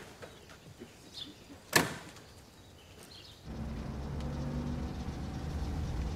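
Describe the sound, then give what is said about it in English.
A man opens the back door of a parked car with a sharp clunk amid quiet outdoor ambience, then a steady low engine rumble starts up and continues to the end. “A man opens the back door.”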